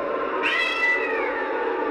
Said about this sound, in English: He heard a cat meow.